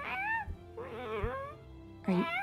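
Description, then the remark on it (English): A cat meows three times, drawn-out, wavering cries with short pauses between them, the middle one longest and the last rising sharply in pitch. “We've got a cat present.”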